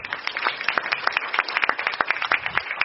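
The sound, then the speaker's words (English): An audience applauds steadily, many hands clapping in a dense, irregular patter that holds at an even, moderate level for the whole stretch, with no one speaking over it. “And for now, please give him another round of applause.”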